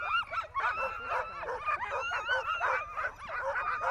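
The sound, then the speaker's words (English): A crowd of racing sled dogs barks and yips all at once, an excited, overlapping chorus of high yelps and whines that runs on without pause, loud, with no talking. “53 in the kennel, 15 puppies, you know, so we have about 36 racing dogs, 38, so we've got a you know, half of them here.”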